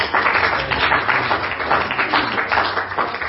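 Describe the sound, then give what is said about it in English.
A crowd applauds steadily, many hands clapping at once in a dense, even wash of sound that holds at a fairly loud level throughout. “Can you clap your hands?”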